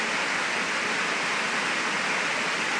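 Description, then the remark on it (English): A steady, loud roar of rushing floodwater pouring and churning on a property with five dams and a river, continuous and unbroken for the whole stretch with no voices. “My whole front and backyard and all my dams and that, we've got 5 dams here and a river, and we're totally inundated with floods here.”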